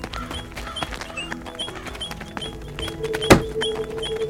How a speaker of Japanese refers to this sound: 何タップダンス踊ってんの？